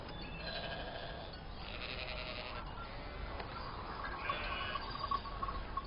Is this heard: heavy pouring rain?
no